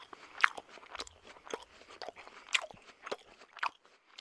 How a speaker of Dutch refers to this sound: Om jullie te laten ervaren hoe het verschil is tussen iemand die misofonie heeft en geen misofonie heeft, laten we dit fragment horen. Dit is hoe iemand zonder misofonie smakgeluiden hoort.